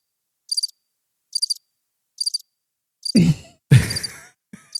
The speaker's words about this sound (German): Du hast Vögelgezwitscher oder sowas, oder? Ich habe es gehört.